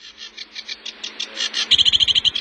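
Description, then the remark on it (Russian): A sedge warbler in a forest and lake area of a national park sings a fast, chattering song of repeated scratchy notes that speeds into a rapid, buzzy rattle toward the end, clear with no talking. “Вот камушовка, барсучок.”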